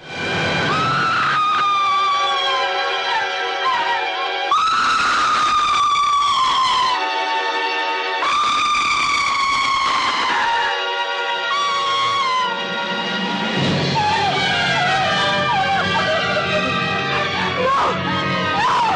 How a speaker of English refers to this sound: No, they don't make screams like that anymore.